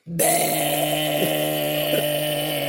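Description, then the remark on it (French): A voice imitates a Peugeot 103 moped engine with a steady, buzzing drone held for nearly three seconds, its pitch dipping briefly twice as if the throttle shifts, loud throughout with no talking. “Et là, je me suis dit, j'entends pas un bruit de moto, j'entends...”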